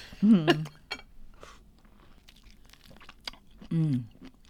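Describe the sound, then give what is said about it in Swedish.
Wet chewing of juicy, sweet orange slices, with soft smacking and squelchy clicks through the middle, bracketed by brief voiced murmurs near the start and end. “Ska vi smaska här?”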